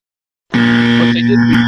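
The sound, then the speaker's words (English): A loud, steady electronic buzzer starts abruptly after a brief silence and drones on without a break, a harsh tone with a strong low hum and bright overtones. “You can't just keep buzzing.”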